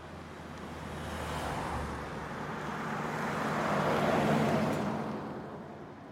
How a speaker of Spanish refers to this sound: La ciudad ha despertado y ahora, con el sol, el tráfico progresivamente va haciéndose más pesado.